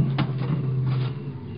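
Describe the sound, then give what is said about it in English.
A car door opens with a short clunk as someone gets into the back of the car, then swings shut a moment later over a steady low engine-like hum. No one speaks. “You get in the back of the car.”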